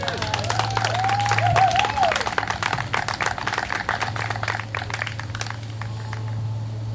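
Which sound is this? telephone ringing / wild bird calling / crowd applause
crowd applause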